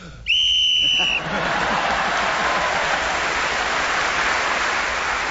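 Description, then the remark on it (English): A single shrill, steady whistle blast lasting about a second signals the end of the round in a panel game while Paul Merton is still speaking, then gives way to loud, sustained applause that carries on to the end. “So, Paul Merton was again speaking as the whistle went, gained that extra point for doing so, and has increased his lead over all the others at the end of the round.”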